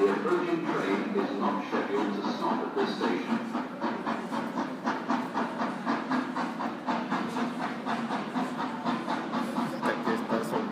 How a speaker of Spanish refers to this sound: Standing here at Streatham Station, and a steam train is about to come past.